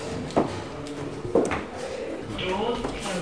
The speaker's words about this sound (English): Doors opening.